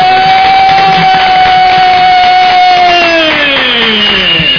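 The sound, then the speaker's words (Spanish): Loud applause and crowd noise fill the whole stretch, with a sustained whistling tone riding on top that slides lower toward the end. “Muy bien, por ello, otra vez otro aplauso.”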